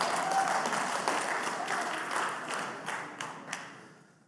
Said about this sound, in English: You guys can be seated. You can clap for that. That was all right.